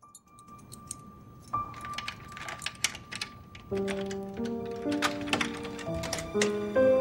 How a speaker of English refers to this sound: At Warden Manor, Jean tries some keys in a lock.